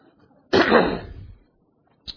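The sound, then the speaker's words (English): A single harsh, forceful cough from a person who has just swallowed a cough drop bursts out and rings for nearly a second, followed by a brief, faint second burst after a pause. No one speaks. “Swallowed my cough drop, sorry.”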